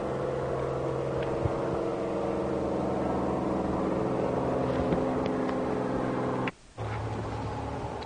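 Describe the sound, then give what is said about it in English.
A loud, steady engine drone from an aircraft or helicopter overhead fills the whole stretch, with a humming tonal quality and a brief dropout near the end. No one speaks. “I wanted to get the plane off of the helicopter, as you say, coming over off of the tape there.”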